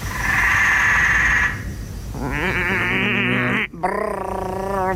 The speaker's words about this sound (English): Oh, and that is a frog. Excruciatingly loud. Yes, it is. Well, that's recorded when you're trying to get to sleep inside your bedroom.